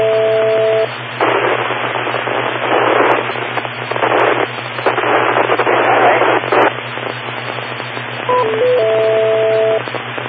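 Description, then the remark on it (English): Loud, dense radio static crackles and hisses in bursts over a steady low hum, with a couple of brief pure tones sounding at the start and end, and no voices. “By the way, for information, there is absolutely no change in signal strength while I hear this, when I see this static, I'm watching the signal strength.”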